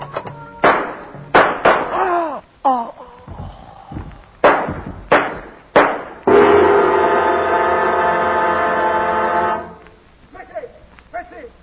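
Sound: gunshots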